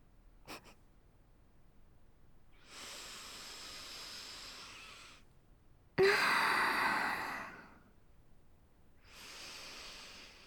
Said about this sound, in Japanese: 匂いすっごく嗅ぐし。いいよ、好きなだけ嗅いでも。私も君の匂い嗅ぐから。